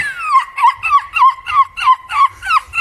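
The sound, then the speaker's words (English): A 9-year-old boy from Chesterfield, England, who won a European championship for screeching like a seagull, imitates a seagull, letting out a quick series of about eight loud, shrill cries, each sliding downward in pitch, repeated in a steady, rapid rhythm with no talking. “It's about a boy who's won a European championship for screeching like a seagull.”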